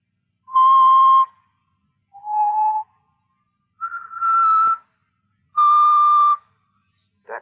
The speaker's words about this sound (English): That song. Did you ever hear it before? Yeah. Bet you did. He's always whistling it.